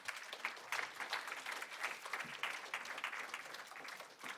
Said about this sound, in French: j'appelle à la tribune Patrick Gouet, délégué du Défenseur des droits en charge de la lutte contre les discriminations et la promotion des droits. On peut chaudement l'applaudir.